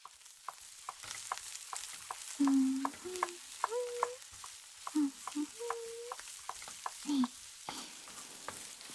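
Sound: onions sizzling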